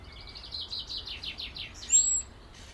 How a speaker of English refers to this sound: Well, I can tell you there's a bird down below me to the left, Mrs. Blackbird, getting a wee bit of bread.